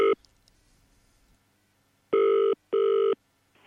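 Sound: telephone ringing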